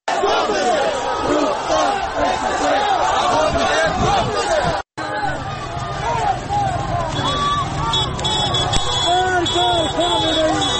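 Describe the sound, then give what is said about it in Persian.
A dense crowd of street protesters in Iranshahr, Iran, shouts and chants continuously, many voices overlapping in a loud, rising and falling roar, with a brief cut to silence partway through before the clamor resumes. “در اینجا صدای معترضان را در ایران شهر می‌شنوید.”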